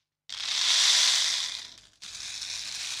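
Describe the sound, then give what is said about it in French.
A flat rain-stick, a traditional maloya instrument from Réunion made of sugar-cane stalk and seeds, is tipped and shaken, its seeds pouring in a dense, hissing rattle that swells and fades over a second and a half, then a second steady wash of trickling seeds begins. “Moi, j'aime bien le décrire comme un bâton de pluie plat, une plaque de pluie, du coup.”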